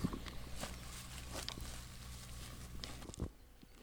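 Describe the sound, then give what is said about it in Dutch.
Steady footsteps crunching over rough ground outdoors as people walk over to a farm field plot, with a low rumble of wind or handling noise underneath and no talking. “Oeps, nou zullen we daar eens naartoe lopen?”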